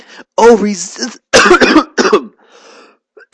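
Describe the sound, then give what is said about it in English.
A strained, voiced choking sound gives way to a few harsh, rapid bursts of coughing, then a rough clearing of the throat that trails off into a faint rasp. “Just choked up here”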